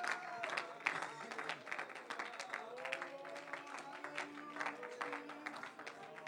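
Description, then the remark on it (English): An audience claps their hands while praising Jesus in a dense, steady wash of applause, loud throughout, with voices and some sustained tones sounding underneath. “Clap your hands.”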